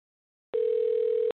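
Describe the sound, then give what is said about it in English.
A telephone tone plays while a call is placed to a guest on the radio show Focus on Albany: one steady, mid-pitched electronic beep lasting under a second, clear and alone, with silence before it and no voices. “I am going to get him on the phone now.”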